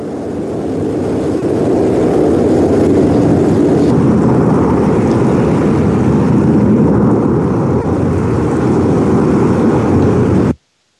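A steady, loud engine roar of a commercial airplane, with a broad low-frequency rumble of combustion and propulsion, holds constant for about ten seconds, then cuts off abruptly; no voices are heard.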